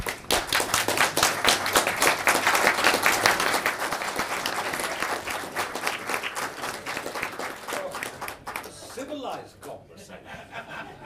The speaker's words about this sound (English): I'm not an intellectual, and also after hearing all the applause for that, it's like Harry Secombe used to say, follow that with the sea lions.